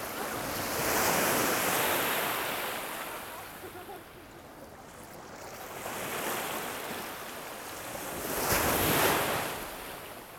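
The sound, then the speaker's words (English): Sea waves break and wash onshore on a sunny holiday day, with people swimming and paddling in the sea, in broad rushing swells, surging at the start, easing mid-way, then crashing again near the end, with steady wind noise underneath. “Nice waves.”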